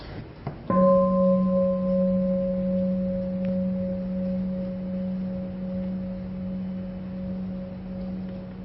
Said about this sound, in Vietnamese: Bây giờ chúng ta nghe một tiếng chuông, nhắm mắt lại thả lỏng cho khỏe.